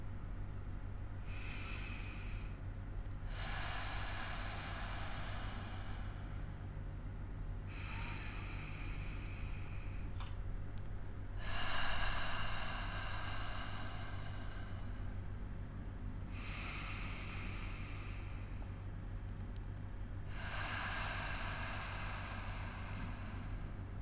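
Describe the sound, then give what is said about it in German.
Slow, steady breathing: air drawn in through the nose, then breathed out through a slightly open mouth, repeating in soft whooshing swells about every four to five seconds, with no talking. “Mich erinnern die Geräusche beim Ein- und Ausatmen sehr an die Wellen am Meer.”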